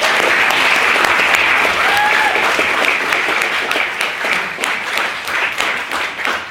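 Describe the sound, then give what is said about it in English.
A room full of people applauds steadily, a dense wash of many hands clapping at once that holds strong for several seconds before thinning slightly toward the end, for four maiden speakers at a debate. “First of all, we've had four maiden speakers tonight, so I think they deserve another round of applause.”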